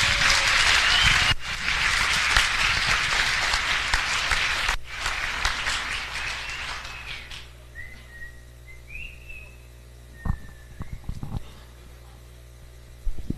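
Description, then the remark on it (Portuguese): A crowd applauds loudly and steadily for several seconds for everyone present, closing a speech, then the clapping fades out while a few sharp whistles and cheers ring out from the audience. “E quero pedir para encerrar uma grande salva de palmas a todas e todos que aqui estão presentes.”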